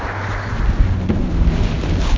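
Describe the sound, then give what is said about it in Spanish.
A crowd claps steadily in applause for the Lord, the dense, rumbling applause holding at an even, fairly loud level throughout, with no voices standing out. “Un aplauso por el Señor que tiene la vida.”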